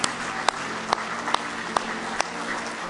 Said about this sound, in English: Let's give him a big hand clap of praise in the house of the Lord tonight.